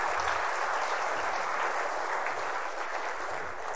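A room full of people claps steadily, a dense, continuous wash of applause that holds at an even level for a few seconds without any voices cutting through.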